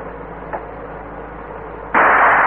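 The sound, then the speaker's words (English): A steady truck engine rumble runs until a single loud elephant gun shot cracks out near the end, fired from the truck at a pursuing vehicle's tire, its sharp blast giving way to a sustained roar of noise. “Oh, that was some shot.”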